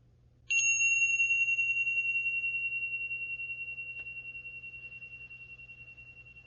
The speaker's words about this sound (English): Now we'll end the meditation with a soft ringing of the bells.